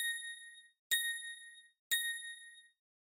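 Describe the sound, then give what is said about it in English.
Three clear, evenly spaced bell tones ring out about a second apart, each a bright ding with a sharp strike and a ringing decay, like a time-signal chime, with no voices. “At the third bell, the time will be 7:01 precisely.”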